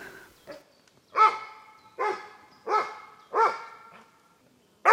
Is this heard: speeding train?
no